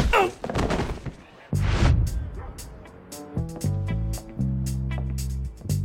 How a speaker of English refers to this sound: Chest bump me. You don't want to do this, man. No, I really do. It hurts you every time. No, I know, but I'm fired up. The adrenaline is going to carry me through. Here we go.